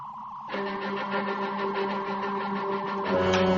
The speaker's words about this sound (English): Shh. Listen, do you hear it? That low hum. A phaser. On overload.